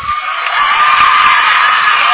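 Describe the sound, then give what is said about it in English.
A basketball crowd in a women's game cheers loudly in a steady, continuous roar of many voices that swells slightly and holds for the whole moment, with no distinct speech standing out, as the official calls a foul against a Lady Buffaloes player. “The loud is cheer tonight, coming because the official calls a foul on the floor against the Lady Buffalo on them mound.”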